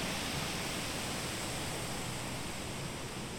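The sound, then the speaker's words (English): A steady wash of rushing water, like surf, fills the scene with a dense, even hiss that holds at a constant level without pause, recorded on a bridge in Manor Park with a binaural microphone while turning in circles. No voices. “It sounds to me almost like the sea. Waves sweeping in and out all around.”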